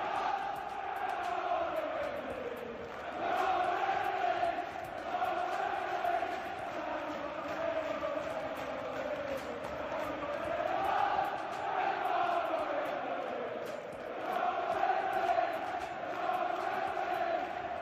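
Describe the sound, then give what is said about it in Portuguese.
A massive stadium crowd chants in unison that they will be league champions and cheers at the final whistle of the match, a dense, continuous roar whose melody rises and falls in swells for the whole stretch, loud and enveloping. “A torcida cantando, nós vamos ser campeões da Liga. E é o exato momento do apito final, a torcida vibrando e daquela explosão de alegria.”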